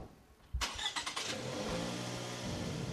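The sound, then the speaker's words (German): A car engine cranks with a few quick chugs, catches and settles into a steady running rumble, then revs slightly as the car pulls away, setting off to Wädenswil. No one speaks. “Wir steigen darum in sein Auto.”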